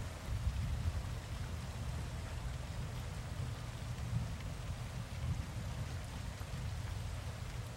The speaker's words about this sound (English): The storm there is in the Everglades in Florida.